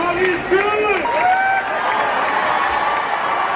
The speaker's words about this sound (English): What is this? This is the crowd here cheering for you to take the mic.